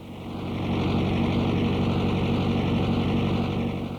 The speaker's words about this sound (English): A tractor roars ahead on the Coftry Christmas tree farm on a sunny day in late fall. It's used to mow the grass growing between the trees on the 35-acre site outside of New York's state capital, Albany.